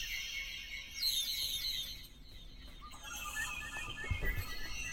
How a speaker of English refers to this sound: The birds. Turn those birds off.